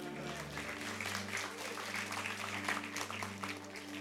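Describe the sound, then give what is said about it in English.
An audience applauds steadily for several seconds, a dense wash of clapping at even volume, with a low sustained organ or keyboard tone humming underneath. “Now you can clap.”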